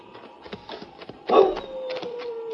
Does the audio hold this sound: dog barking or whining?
yes